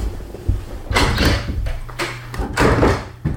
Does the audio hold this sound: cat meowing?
no